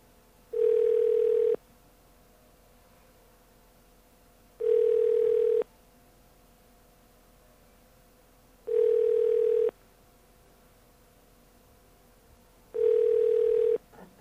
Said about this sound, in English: let's see if that's still the case. Put in a little magic code here. And see if it actually rings. It is ringing.